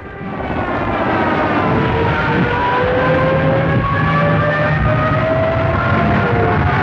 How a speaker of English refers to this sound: The troop planes packed Malmö, multiplying the German strength. A continuous swarm of transports coming to unload and going back for more flew low across the British lines to shake morale.